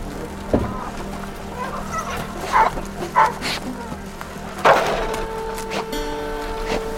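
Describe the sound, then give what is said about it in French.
A dog guarding hens' eggs from cats barks in short, sharp bursts, about five times at irregular intervals, over a steady low mechanical hum that runs throughout. “Et donc si le chien est à côté, on peut avoir des œufs.”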